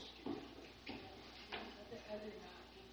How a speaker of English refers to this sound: Other knocking. Some loud, some soft.